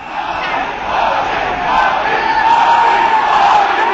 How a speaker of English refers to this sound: Narendra Modi with the BJP on his way in. Here's supporters cheering his name at a victory rally today.